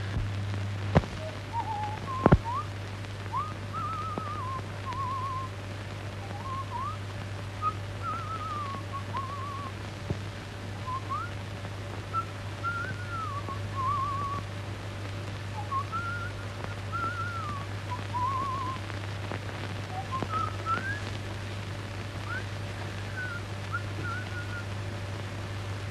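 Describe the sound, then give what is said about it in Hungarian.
Someone whistles a wandering, melodic tune in short phrases for about twenty-five seconds, clear, over a low steady hum with a couple of sharp clicks near the start. “Tudod, jó ötletem, csak akkor támad, ha fütyülök.”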